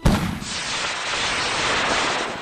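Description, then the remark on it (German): A liquid-fuel rocket burning gasoline and liquid oxygen ignites on a farm with a sharp low thump, then a loud, steady roaring rush of exhaust carries on without letting up. “soeben ist auf deiner Farm die erste Flüssigtreibstoffrakete der Welt geflogen.”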